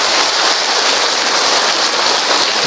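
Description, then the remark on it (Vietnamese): A large crowd claps in a loud, dense, steady roar of applause lasting a few seconds, individual claps blurring together with no voices heard. “Một tràng pháo tay thật lớn cho những anh chị em đó, thưa anh chị em.”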